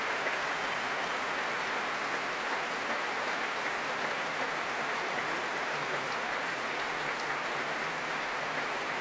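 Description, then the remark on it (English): The audience at the Royal Albert Hall and the players of the BBC Symphony Orchestra applauding warmly as soprano Ruby Hughes returns to the platform, a dense, steady wash of many hands clapping that holds at an even level for the whole stretch with no voices. “Warmly applauded by everyone here at the Royal Albert Hall and every player of the BBC Symphony Orchestra.”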